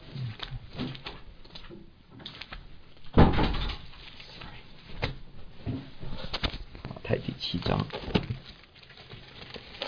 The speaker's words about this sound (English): Let me close the door.